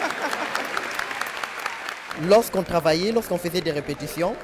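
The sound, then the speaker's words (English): A concert audience applauds with joy after an orchestral performance of African carols set in classical music, in a dense, steady wash of clapping that fades into the background as a single voice begins speaking over it partway through. “I waited to see how the audience would react, and as they applauded with joy, I applauded too.”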